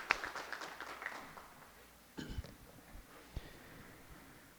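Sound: standing applause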